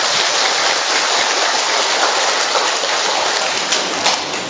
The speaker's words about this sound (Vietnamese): Một tràng pháo tay thật lớn đi thưa anh chị em.